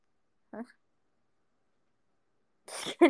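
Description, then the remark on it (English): A short, sharp sneeze bursts out near the end, breathy and hissy before a voiced snap, following a brief vocal sound earlier and a stretch of silence. “Yes, because I keep telling people my dono notives is actually me sneezing, and people are like, no, it's not.”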